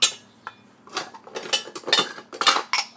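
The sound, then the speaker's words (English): Dishes and cutlery, washed the night before, clatter as they're put away in the cupboard early in the morning, an irregular series of bright clinks and knocks with short pauses between, no talking. “I'm putting away my dishes.”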